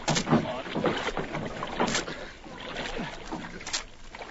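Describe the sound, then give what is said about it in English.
Busy splashing and knocking of a small boat on water, with bumps and thuds as people and a dog named King clamber aboard, some brief muffled voices mixed in. “Come on, into the boat.”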